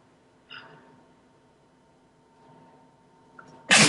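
A single loud sneeze bursts out abruptly at the very end, following a brief sharp intake of breath and otherwise quiet room tone with no talking.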